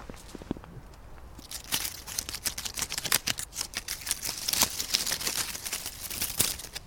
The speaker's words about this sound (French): Une maison avec une clôture de feuilles mortes. Écoutez le bruit des feuilles mortes.